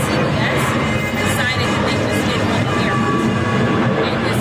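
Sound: airplane flying overhead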